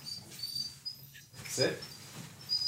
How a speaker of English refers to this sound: This is my dog, Arby, after the roast beef place. Arby? Yeah. Oh my gosh, I love that your dog is named Arby. Arby, come on.